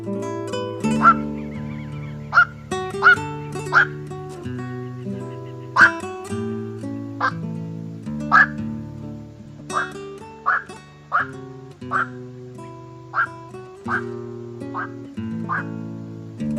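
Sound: black-crowned night heron calls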